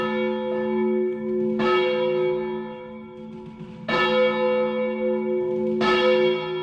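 cathedral church bells ringing

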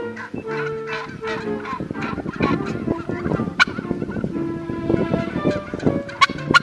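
turkey gobbling

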